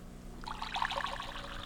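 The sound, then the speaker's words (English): Water pours out onto the street in a steady, burbling trickle that starts after a brief quiet moment and continues, moderately loud, with a low hum underneath and no voices. “I pour the water out of my brain onto the street.”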